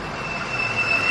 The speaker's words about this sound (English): FedEx truck moving here early this morning. I don't usually see those people here till mid-morning. Must be starting his route here instead of on the other end of town or something.